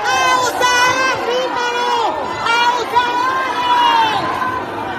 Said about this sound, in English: This Facebook post from June shows a crowd shouting down a policeman who's grabbed a man by the neck in downtown Havana. Activists say the man was criticizing the government when he was apprehended.